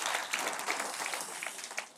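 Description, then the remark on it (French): A crowd at an Easter church gathering in a football stadium applauds steadily, a dense wash of many hands clapping at once with no pauses, sustained and fairly loud throughout. “Come on, une bonne main d'applaudissement.”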